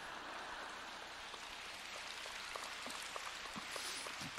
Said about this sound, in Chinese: 怎么鼓掌声音一点都不响？